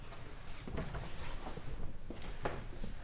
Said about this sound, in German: Zimmer 301 im Hotel Dingsy. Dings. Casa Don Fernando. Okay. Strom aus. Tür auf.